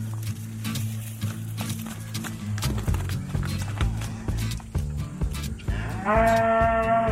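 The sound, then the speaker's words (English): Cattle low and moo repeatedly at a barn, long droning calls overlapping, with a higher, clearer moo near the end and scattered hoof clatter and thumps in the background; a calf and a cow are kept separated. No one speaks. “Right now, the calf and grasshopper are separated. We're going to bring them both in the barn and we'll explain how this calf sharing thing works.”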